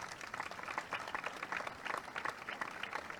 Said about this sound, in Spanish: fuerte ese aplauso para ella, por favor.